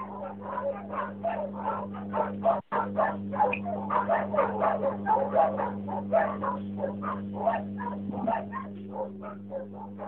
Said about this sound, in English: Now, something must be happening. Do you hear the barking? Yes. I'll leave it on send and you'll hear it.